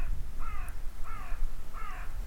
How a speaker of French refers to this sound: Vous l'entendez, le corbeau, auditeur? Rien n'est silence, tout est son.